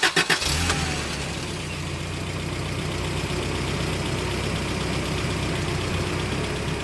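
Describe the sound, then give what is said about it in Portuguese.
A bus engine cranks with a few quick bursts, catches, and then settles into a steady, low, rumbling idle that continues, before a 15-hour night bus journey from Cairo in Egypt. “Enfrentei 15 horas de autocarro, mal sentado, num percurso feito de noite com 7 interrupções para postos de controle militar.”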